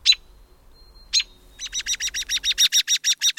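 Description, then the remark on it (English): An American robin gives sharp, high winter call notes: two isolated calls, then a rapid run of about fifteen evenly spaced notes that grow louder, with no talking over it. “It's a robin, or an American robin to be precise, one of the most acclaimed harbingers of spring.”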